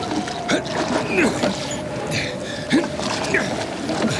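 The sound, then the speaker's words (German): Oars creak and dip into water in an irregular rhythm of strokes as someone rows a boat, with wooden squeaks and splashes over a steady low hum and faint background voices. “Ja, lass mich rudern, Otto.”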